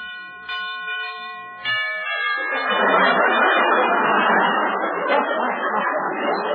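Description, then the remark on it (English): A doorbell at Digger Odell's house, rung in the dark, chimes twice in quick succession, its ringing tones hanging in the air before a loud, steady rushing noise swells up and takes over. No one speaks. “Oh, it's so dark here. Where's the bell? Oh, here it is.”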